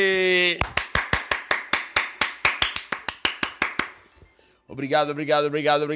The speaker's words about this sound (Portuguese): Palmas pra ele!